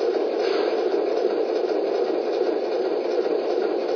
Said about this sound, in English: Not sure if you heard, but we got a hot box at 63.5. We're going to bring the train to a safe stop so the conductor can check it out.